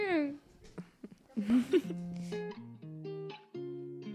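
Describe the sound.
A French pop song, someone's music choice and the artist's very latest release, plays on air, its vocal melody moving in steady held notes over a backing track after a brief gliding voice at the start. The music is moderately loud and clear.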